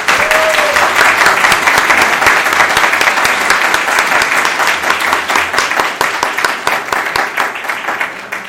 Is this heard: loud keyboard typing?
no